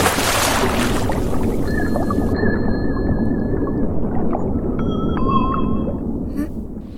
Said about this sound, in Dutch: Wat is het? Een fiets. Ja, een fietsbel onder water.